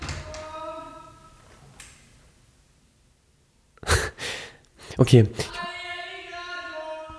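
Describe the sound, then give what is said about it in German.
A door is opened: after a stretch of near silence, a sharp clunk is followed by a cluster of rattling knocks, with a steady tonal hum before and after. “ich weiß, ich mach mal hier kurz die Tür auf.”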